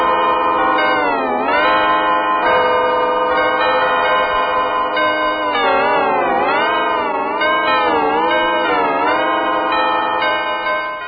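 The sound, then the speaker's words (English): A dense, ringing bell-like tone rolls on without a break, its pitch warping and wavering throughout as if heavily processed with echo. It stays loud and steady, with no voices. “Trouble with those bells, I believe.”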